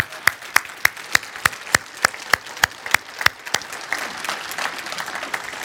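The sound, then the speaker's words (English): Steady, evenly spaced claps open, then more hands join and they blur into a fuller round of group applause, moderately loud, with no talking. “Before we even get into this word, can we just clap real quick”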